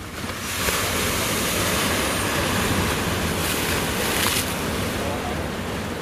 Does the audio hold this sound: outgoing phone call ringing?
no